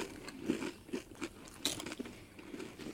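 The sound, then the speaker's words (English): Loud crunching as someone chews a mouthful of Doritos chips and M&M's candies eaten together, with repeated irregular crunches over a few seconds and no talking. “Let's see about this combo here. Very crunchy.”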